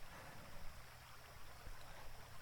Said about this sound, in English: It's so quiet, too. You can, like, actually hear the sound of the river trickling by over there.